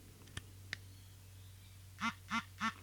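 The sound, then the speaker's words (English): A device vibrates in three short, evenly spaced buzzing pulses, each a brief rasping hum, preceded by two faint clicks over a steady low background hum. It is a battery check made by holding the space key and up arrow key; three pulses mean the unit's battery is between 40 and 60%. “And I got 3 vibrations, which tells me that the unit's between 40 and 60%.”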